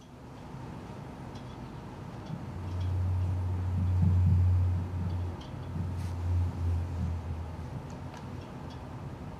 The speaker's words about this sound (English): So this is a blue whale off New York on the 23rd of January.